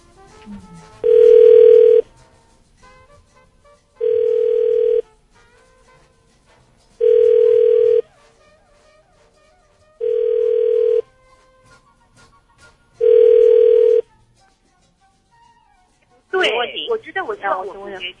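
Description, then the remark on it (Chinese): A phone line rings back five times while calling someone who does not answer, each steady tone lasting about a second with long, even pauses between, loud and clear; a voice begins speaking right at the end. “嗯 ，OK， 继续下一位，不接电话那就无法检视喽。”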